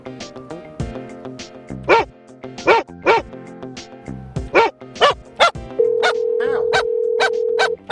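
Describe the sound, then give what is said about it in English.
A dog barks loudly in a rapid, uneven string of sharp yaps, roughly a dozen in eight seconds, while biting at ankles, with a steady droning tone joining in over the last couple of seconds. “The dog went crazy. It's biting at ankles.”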